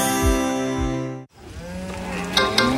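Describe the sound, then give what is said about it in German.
A loud, sustained cow moo with a rich harmonic drone, cutting off abruptly, followed by softer lowing and rustling sounds from cows standing on the roadway of a country road. “Landstraße 2000. Kühe auf der Fahrbahn.”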